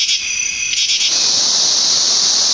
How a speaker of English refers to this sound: The katydid begins making a chirping sound late in the afternoon and continues until late at night.